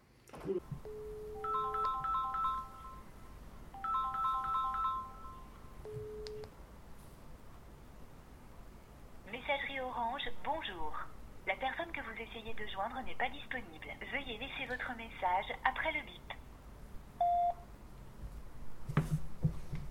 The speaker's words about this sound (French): Mille fois entendu sur nos portables, cette annonce surgit au moindre appel quand notre correspondant est défaillant.